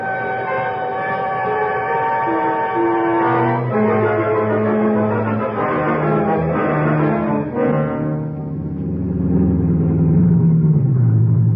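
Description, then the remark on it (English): The northbound limited train pulling out of a railroad depot: long, steady horn-like tones over a heavy low rumble, shifting in pitch, then giving way to a deep engine rumble that slowly swells and rises. “I don't know if we can make it, Jay. She's just pulling out.”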